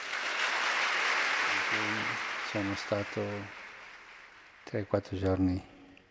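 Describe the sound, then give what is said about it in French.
Thunderous applause from a large crowd, after Pope Francis paid tribute to his predecessor Benedict XVI in a speech, fills the opening seconds, then gradually fades away as a man's voice begins speaking over the dying clapping. “Dans son discours, le pape François a rendu hommage à son prédécesseur, déclenchant un tonnerre d'applaudissements.”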